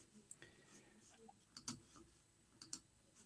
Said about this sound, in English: I keep clicking on the wrong place to bring up these comments.